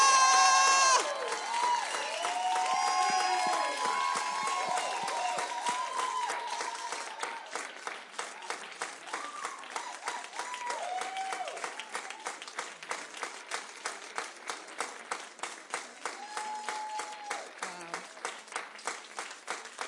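Sustained audience applause, dense clapping at first with cheers and whoops on top, then thinning into a steadier, rhythmic clap that continues to the end.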